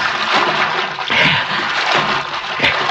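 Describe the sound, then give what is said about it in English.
Continuous rushing, sloshing water with bursts of splashing as a man wades through a creek along the creek bottom in spotty moonlight. Loud, with no voices. “He got to wade the creek, even if it is full of cotton mouths.”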